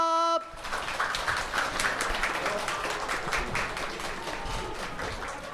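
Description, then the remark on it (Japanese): A brief electronic chime gives way to an audience's sustained applause at a public radio recording, welcoming two Levanga Hokkaido players, dense and steady clapping for several seconds before easing slightly. “それではお待たせいたしました、拍手でお迎えください。”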